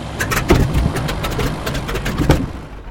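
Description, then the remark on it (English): An airplane engine runs steadily and loudly, a continuous rumbling drone with rapid rattling pulses riding on top, as the airplane is flown over Ontario, Canada, in well-below-freezing weather; no voices over it. “No, this is the first time I've ever flown an airplane.”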